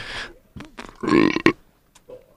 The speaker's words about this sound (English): Excuse me. I had to take a little intermission there to burp.